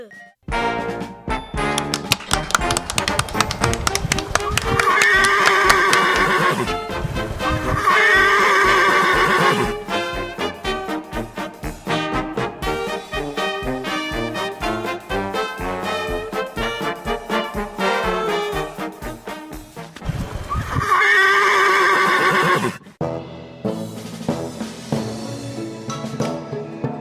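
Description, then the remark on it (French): A horse performing in an aerial act at the Imagolo circus whinnies loudly several times, shrill quavering neighs rising and falling in pitch, with three especially strong bursts amid a busy stretch of snorts and clattering sounds. “Sous vos yeux ébahis, le chepir, un cheval vampire, très dangereux mais surtout très courageux.”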